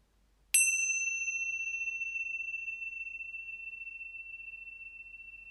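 A single bell is struck once and rings out clearly, its bright, pure tone lingering and slowly fading over several seconds in otherwise near silence.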